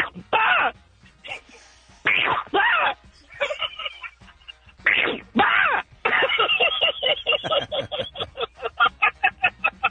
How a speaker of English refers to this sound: Sounds like he was surprised mid sneeze there.